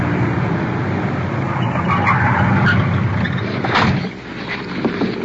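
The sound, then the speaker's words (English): A police car brakes hard behind a suspect's car with a broad, rough skid of tires that holds loudly for about four seconds, then drops off as the vehicle comes to a stop, leaving a lower rumble. “We're stopping the car now.”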